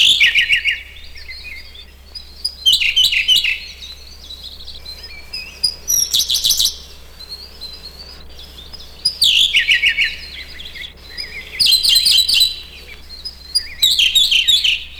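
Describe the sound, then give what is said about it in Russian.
A Siberian blue robin on a branch in the Ussuri taiga sings repeated bright, high-pitched phrases in short bursts separated by pauses, clear, with a steady low hum underneath and no voices. “На ветке красивая синяя птичка. Синий соловей.”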